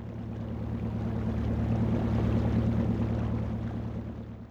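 A boat motor hums steadily with a low droning tone while water churns and washes around it as the boat goes down a river, holding constant for several seconds with no voices.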